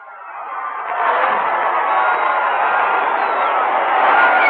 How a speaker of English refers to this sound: The carnival spirit prevails all up and down Times Square. We're just told that Wednesday and Thursday have been declared legal federal holidays, VJ days. Maybe you can hear the people screaming down there, ladies and gentlemen. Let's give a listen.